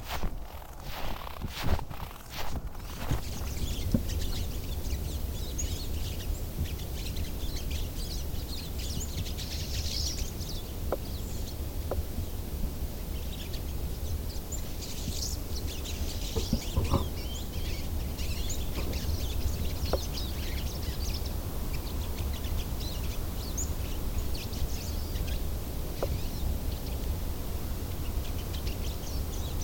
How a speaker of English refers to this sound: This big oak is filled with pine siskins, a little finch with a yellow wing bars and stripes on the belly. These little finches come south from Canada every few years when food from the pine and birch trees up there is scarce.